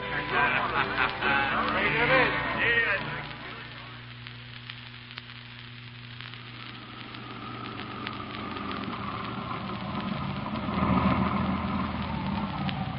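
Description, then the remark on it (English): A car engine hums steadily throughout, with a low, even drone that rises slightly near the end, accompanied by faint rustling and muffled background noise and no clear speech. “Oh, just take him to the car. I'll drive myself.”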